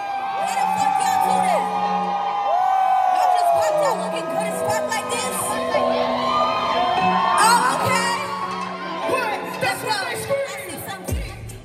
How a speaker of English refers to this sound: Everybody was like hyping her up, like yelling her name or just like singing the words to her song.